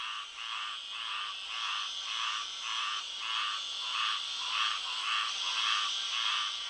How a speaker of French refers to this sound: Également, à mesure que le soleil déclinait à l'horizon, le coassement des grenouilles se faisait entendre.